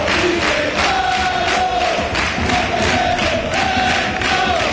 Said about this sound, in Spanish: Anima la afición del decano con gritos y con cánticos, con los cánticos de siempre.